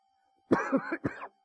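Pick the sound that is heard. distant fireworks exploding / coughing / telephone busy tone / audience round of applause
coughing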